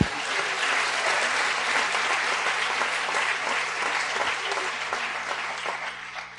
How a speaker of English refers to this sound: Clap your hands, Lord. Hallelujah.